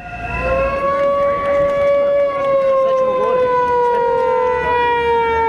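Steady, wailing siren tones drone loudly and continuously over the dense murmur of a large crowd, the pitch drifting slowly downward across several seconds. Several hundred opposition Alliance for Serbia supporters with banners, sirens and whistles protest at noon at the main entrance of the Radio Television of Serbia (RTS) building in Serbia.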